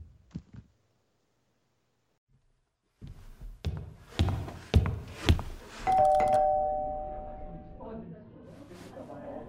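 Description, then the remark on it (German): A doorbell rings at a home's front door with a sustained electronic chime tone lasting about two seconds, preceded by several sharp thuds and clatters, with some voices in the background. “Andreas, wir müssen aufhören, es klingelt an meiner Tür.”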